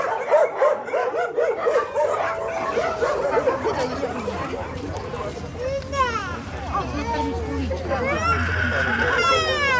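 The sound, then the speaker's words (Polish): Many dogs in the 28 kennel boxes of an animal shelter, awaiting adoption, bark, yip and whine at once in a dense, continuous chorus of overlapping voices, plus a low rumble underneath and brief murmured talk. “A tutaj za ogrodzeniem mamy 28 boksów, gdzie mieszkają już sobie pieski przeznaczone do adopcji.”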